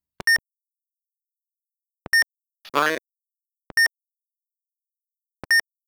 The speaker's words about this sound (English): With the German one, if you do the same thing, you get just a beep.